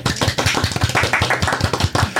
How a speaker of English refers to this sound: A little applause, please.